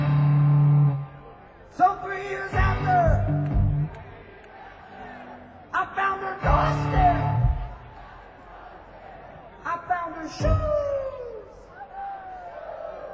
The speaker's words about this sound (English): when I ask if you guys want to do a little call and response on this beautiful mountain, if I yell something, you gonna yell it back at me? You gonna yell it back, mountain man?